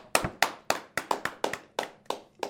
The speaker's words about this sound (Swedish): En applåd.